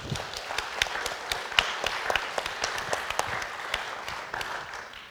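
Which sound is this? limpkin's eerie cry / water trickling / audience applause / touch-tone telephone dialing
audience applause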